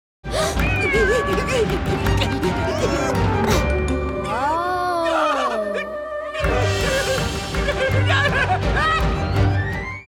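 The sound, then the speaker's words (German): Gregor's cat meows while chasing the rat Samuel Schnauzbart amid a busy, loud chase scene, its drawn-out wavering cry rising and falling over clattering crashes, thumps and energetic background music. “Die Katze ist hinter Samuel Schnauzbart her.”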